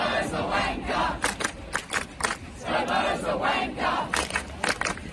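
A large protest crowd in smoke-filled Australia during the bushfires chants in unison that Prime Minister Scott Morrison (ScoMo) is a jerk, a loud rhythmic slogan repeated in pulsing bursts of massed voices, with a rough, continuous roar of many people underneath throughout.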